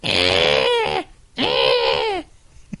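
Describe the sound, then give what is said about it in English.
A person vocally imitates an injured rabbit predator call with two loud, strained, high-pitched wailing screams, each about a second long with a brief pause between them and a falling pitch at the end. “It's an injured rabbit call. It's a high pitched scream that sounds like the devil is punching you in the ears.”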